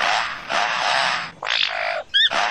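A lyrebird, a mimic able to copy sounds it hears around it, sings a loud, varied run of calls: sustained harsh hissing and buzzing phrases, then a quick series of bright, rising whistled chirps, with no talking.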